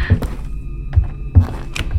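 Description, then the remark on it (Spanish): Several dull, low thuds and knocks of doors and footsteps come at uneven intervals over a faint steady hum, with no one talking, in a dark house just after the power went out. “Se escuchan puertas y pasos.”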